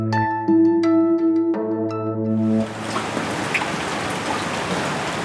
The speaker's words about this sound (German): Sie können sich, glaube ich, gar nicht vorstellen, wie sehr ich mich heute Morgen gefreut habe, als ich aus dem Fenster geguckt habe und es regnet.